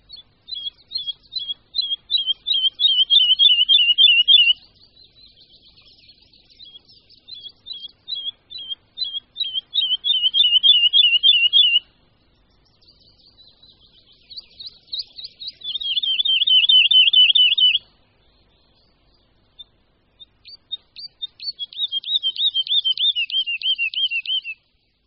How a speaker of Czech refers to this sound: Skřivan lesní.